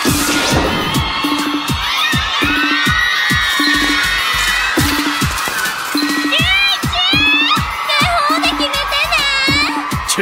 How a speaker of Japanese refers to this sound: まずは赤コーナーの早見選手入場です。相変わらずすごい声援です。